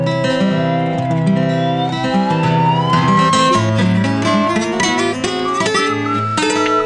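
A slide whistle glides slowly upward in one long, steady rising tone, then continues in shorter wavering notes over a busy backing of loud chords and rhythmic music.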